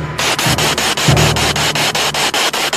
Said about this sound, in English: I switched on my spirit box and it began scanning, the quiet clicking and hissing filling the air.